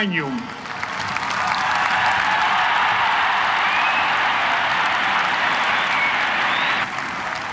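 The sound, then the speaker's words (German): A large crowd at St. Peter's Basilica cheers and applauds during preparations on the central balcony to announce the new pope, in a dense, sustained roar that swells at the start, holds steady and loud for several seconds, then drops off near the end. “Dann wieder Jubel der Menge.”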